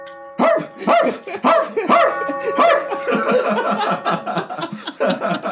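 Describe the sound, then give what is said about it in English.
A dog barks in a rapid series of sharp yips that run together over several seconds, with a steady tonal hum underneath and what may be laughter mixed in. “That's Clifford, the big red dog, nigga.”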